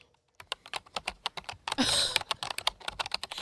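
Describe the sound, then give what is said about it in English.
Rapid, steady typing on a computer keyboard, with crisp key clicks and a brief rustling clatter midway, as someone writes a book. No voices are heard. “Is that a typewriter? No, I'm actually, I've upgraded to a computer.”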